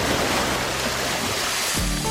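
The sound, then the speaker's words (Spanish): A steady wash of ocean surf from the Sea of Cortez fills the short stretch, with a deeper surge rolling in near the end as faint tonal sounds emerge. No one speaks. “Sea Cortés en el mar de Cortés.”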